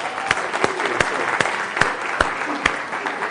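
A room full of people claps steadily for a few seconds, a dense wash of hand claps with a few sharper, louder claps standing out at irregular moments.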